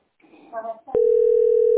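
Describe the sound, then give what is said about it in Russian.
Brief murmured voices, then a click and a steady, unbroken phone dial tone as a number is dialled on a mobile phone, holding one mid pitch loudly to the end. “Пока я жду, на свой телефон набирай.”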